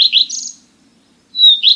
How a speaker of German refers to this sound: Das hier ist auch so ein Langstreckenflieger, der in Afrika überwintert. Der Gartenrotschwanz. Im Sommer können Sie ihn an seinem zitternden roten Schwanz erkennen, wenn er auf niedrigen Ästen oder Büschen sitzt und auf Insekten wartet.